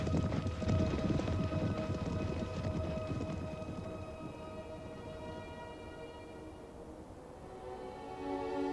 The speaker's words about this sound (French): Simba regarda par-dessus la crête au moment où son père disparaissait dans le tonnerre du martèlement des sabots.